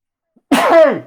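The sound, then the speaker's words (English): A single loud sneeze bursts out of silence, sharp at the start with a voiced, falling tail that fades over about half a second. “bless you.”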